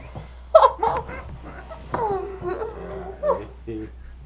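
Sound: small dog whimpering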